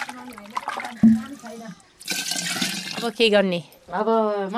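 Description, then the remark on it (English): A steady rush of warm water pours for about a second into a teko, a pot holding yogurt, fairly loud, with a person talking before and after the splash. “With the teko full of yogurt and warm water,”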